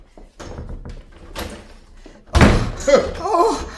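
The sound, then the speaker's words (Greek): A door is opened with a few soft knocks and rattles, then slammed shut with one loud bang, followed immediately by a person's voice crying out. “Ξύπνα και άνοιξε την πόρτα! Είναι ο Πίτερ, ο άντρας μου! Άνοιξε του την πόρτα.”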